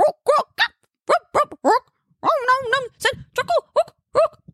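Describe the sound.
A voice barks out a goblin song: a string of short, guttural syllables in a rough chanting rhythm, breaking into a longer warbling sung phrase, then ending with more clipped barks, loud, almost dog-like.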